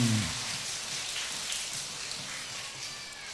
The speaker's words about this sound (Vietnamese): Các con có muốn không? Vậy thì phải làm theo bằng một tràng vỗ tay.